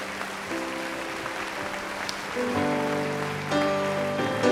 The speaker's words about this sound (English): Would you thank God with a clap offering again?